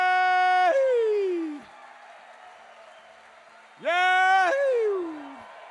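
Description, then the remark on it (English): Two loud howls from human voices imitating wolves, each a sustained tone that swells and then slides downward, separated by a short quiet gap. “Time to howl.”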